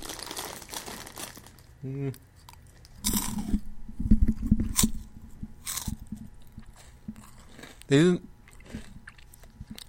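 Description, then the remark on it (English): Crunchy chips called chip chips, which look like potato chips, being chewed, with loud, crackly bites clustered in the middle and a couple of short hummed voice sounds before and after. “These are not bad, I think. They're crunchy.”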